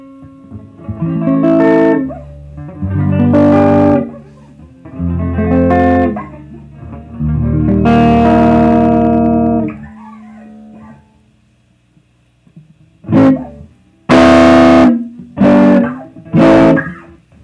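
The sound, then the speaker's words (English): An electric guitar, tuned down and set to the rhythm pickup with its volume at about 3, is played very lightly through an amp with bass and treble at 5 and the deep switch off. Four soft chords ring out one after another, then a quick burst of sharper, brighter strums near the end. No voices. “Well, that was playing very lightly on the strings, trying to minimize the breakup and hopefully the distortion.”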